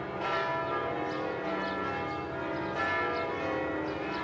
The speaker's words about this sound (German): Am 10. Januar 1971 läuten die Glocken der Pariser Kirche Madeleine. Es sind die Trauerglocken für Madame Coco Chanel.